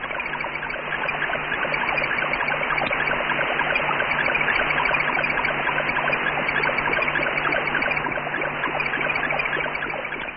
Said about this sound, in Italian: La sera del 27 ottobre 1962 piove davvero questo segnale sull'antenna di Bochum. È l'Explorer 15, un vero e proprio laboratorio scientifico automatico